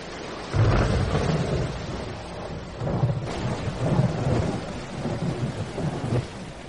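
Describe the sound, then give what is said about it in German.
Deep rolling thunder rumbles through a steady wash of rain, swelling in several heavy waves over a few seconds, loud with no voices. “Es ist schon wieder Nacht, es donnert und blitzt, das erste Gewitter des Jahres.”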